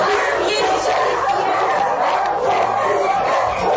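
A loud, continuous din of many dogs barking and yelping at once, overlapping with no breaks and echoing, at a dog shelter home in central Bogotá, Colombia.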